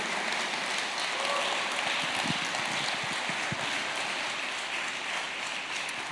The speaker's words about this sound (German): Können wir mal Jesus einen Applaus geben? Das ist richtig gute Nachricht. Danke, Jesus.